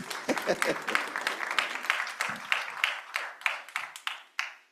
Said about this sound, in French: Y un aplauso al Señor. Et applaudissons le Seigneur.